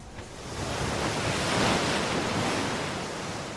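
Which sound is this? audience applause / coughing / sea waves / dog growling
sea waves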